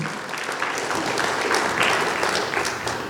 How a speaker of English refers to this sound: You feel like clapping for Jesus? I sure do. Yeah.